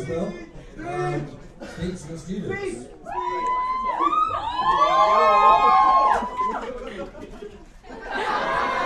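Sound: crowd cheering wildly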